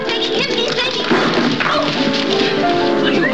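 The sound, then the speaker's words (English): A dog barks and whimpers in short, excited bursts over a dense, steady background of clatter and commotion, fairly loud throughout the few seconds, in a scene from a Thin Man series film. “You cannot take the dog there.”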